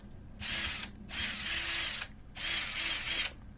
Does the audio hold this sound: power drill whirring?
yes